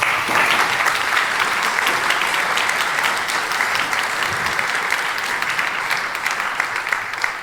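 An audience applauds a speaker introduced for a talk on political influence in public talk shows, a steady, dense, loud wash of many hands clapping with no voices, holding an even level before tapering slightly at the end.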